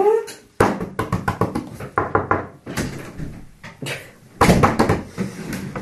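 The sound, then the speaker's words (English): A door is opened and shut again and again, producing a rapid, uneven run of loud wooden clacks and thumps with short rattling pauses between them. “I don't like how the door is.”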